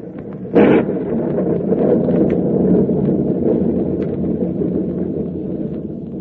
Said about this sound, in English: Well, the storm seems to be subsiding somewhat, sir. It may be just a temporary lull, but in case it's a real break, we're going to take advantage of it.